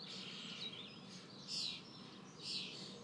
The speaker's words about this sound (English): Early morning bird song. And there's a cuckoo which has just decided to stop singing. Typical. There he goes. Can you hear the cuckoo? Spring is here. That's the cuckoo. How lucky am I? That's out of my bedroom window.